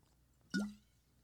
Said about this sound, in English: Can you swallow in the microphone with a glass of water, please? We just need to measure this really quick for science.